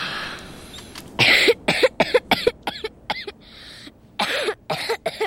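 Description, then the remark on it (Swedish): A person coughs hard and repeatedly in a rapid, ragged fit of harsh bursts, loud, with brief gasping pauses between clusters and no talking. “Ibland, när jag hostade jättemycket, kokade Jonathan honungsvatten.”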